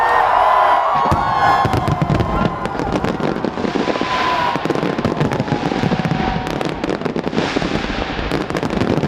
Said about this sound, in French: À Sydney, d'où est tiré le plus emblématique des feux d'artifice, seulement 17 000 personnes ont pu acheter un ticket pour se placer autour de la baie, contre 1 million les années précédentes, les années pré-Covid.